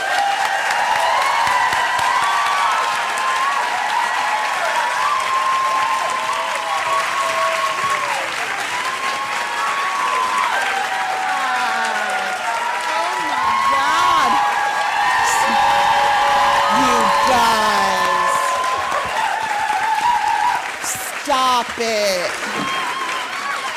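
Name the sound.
audience clapping and cheering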